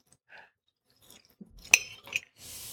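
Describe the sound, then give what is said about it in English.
Chewing on a piece of slightly cold steak kebab: soft, wet mouth sounds with a couple of sharp clicks midway, then a burst of breathy noise at the end. Nobody speaks. “Try a piece of steak and then try this with wine and see what it does.”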